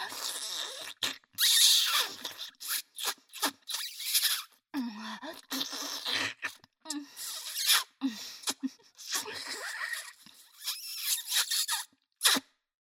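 high-pitched scream

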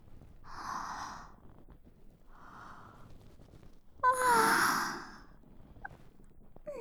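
yawn

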